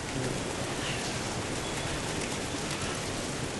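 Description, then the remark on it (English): A crowd of people imitates an earthquake together while retelling the story of Elijah in the cave, making a loud, dense, continuous rumbling roar that sounds almost like heavy rain and holds steady throughout, with no talking. “Now let's make the earthquake sound.”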